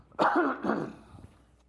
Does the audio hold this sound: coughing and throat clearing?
yes